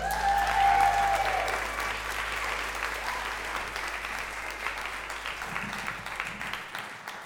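A crowd applauds steadily, a dense wash of many hands clapping that starts strong and gradually tapers off over about seven seconds, with a faint whistle near the start.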